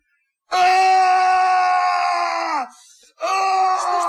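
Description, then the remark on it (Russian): Emil's father screams loudly, one long strained cry of about two seconds, then a brief pause before a second scream starts. “Это кричал папа Эмиля.”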